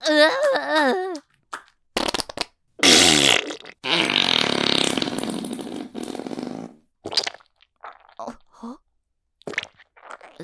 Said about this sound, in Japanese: ああ、またおなら出る。